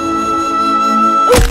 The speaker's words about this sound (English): then crashed into a tree.